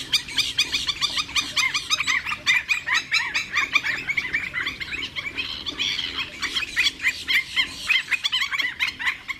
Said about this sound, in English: These are the sounds of a coastal marsh waking up at dawn in the springtime, when the birds are courting and mating and nest building and defending their territory. We sit quietly in an airboat and listen to the complex carryings-on of avian romance.